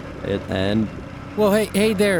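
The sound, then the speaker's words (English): A voice imitates an excavator engine being started with its key in the ignition, with two short droning bursts followed by a louder, wavering rev-like hum in three close pulses, fairly loud. “You put your exca key in the exca ignition, and you start it going, just like any old engine of any old car or golf cart.”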